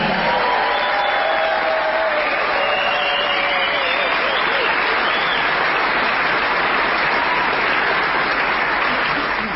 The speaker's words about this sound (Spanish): señores, es momento de prolongar el aplauso para recibir a la trompeta